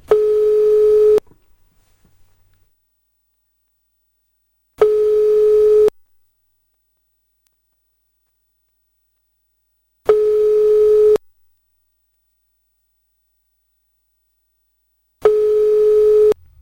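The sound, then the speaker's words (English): An outgoing call's ringing tone from a UK radio studio calling Donald Trump's office sounds four times, each a steady electronic burst of about a second separated by long silent gaps, clear with no one speaking. “Is it ready? Is it ringing? Is it ringing?”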